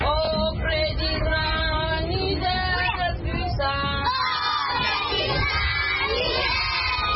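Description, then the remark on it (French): A large group of schoolchildren at the school at the entrance of the town of Bosso, Niger, recite their lessons in a loud, continuous chorus, their overlapping voices rising and falling throughout. “À l'entrée de la ville de Bosso, impossible de rater l'école ni les cris des enfants qui récitent leurs leçons.”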